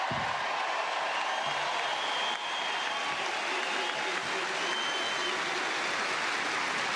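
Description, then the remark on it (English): A large tennis crowd at a tournament applauds steadily, a dense continuous wash of clapping from many hands that stays loud and even throughout, with no voices standing out. “And I think as an Aussie, the most important part of this tournament is being able to share it with so many people, and you guys today in the crowd have been nothing shy of exceptional.”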